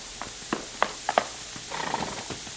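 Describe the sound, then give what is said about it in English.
Horse hooves clip-clop at a slow, uneven pace, a handful of hollow knocks, then a quicker flurry of softer steps toward the end. “Don't get up till I get off this horse.”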